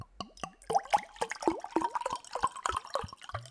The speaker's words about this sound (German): ich muss kurz hier Wasser trinken. Kleine kurze ASMR-Session.